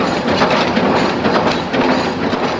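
train passing by

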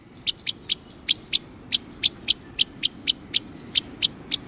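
blackbird alarm call

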